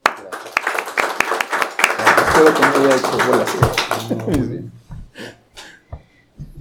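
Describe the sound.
A crowd applauds with a dense patter of many hands clapping and voices murmuring underneath, then the clapping thins out into a few scattered claps before stopping.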